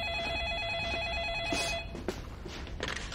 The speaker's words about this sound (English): Honey, will you grab the phone, please?